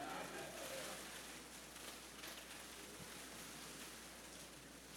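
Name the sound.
hail falling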